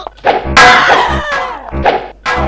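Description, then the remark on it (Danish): A rapid series of heavy video game melee strikes with a lead pipe as the player kills three or four enemies, about five thwacking blows with dull low thuds and a brief metallic ring, landing in quick irregular succession. “Der er dræbt jeg lige en 3-4 stykker med 7 slag.”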